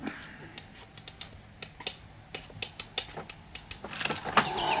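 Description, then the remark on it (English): A bird trying to get in rattles the window seat wood: irregular sharp wooden taps and clicks in scattered bursts, like pecking or knocking at a window frame, growing busier and louder toward the end, with no voices. “the window seat wood is rattling. I've already seen to it. It's some bird trying to get in.”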